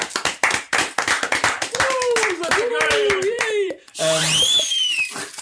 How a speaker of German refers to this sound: Das ist wirklich richtig, richtig toll. Dafür vielleicht nochmal ein kleiner Applaus.